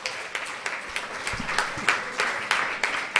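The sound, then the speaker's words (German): A short burst of hand clapping, around ten steady claps at an even pace, moderately loud, like a small group or single person applauding without any voices. “Also Applaus.”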